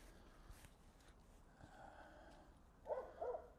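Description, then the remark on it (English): A dog snuffles and snorts quietly while doing his business against a hushed outdoor background, with two short breathy bursts close together near the end. No one speaks. “I'm a little distracted by the dog doing his business here.”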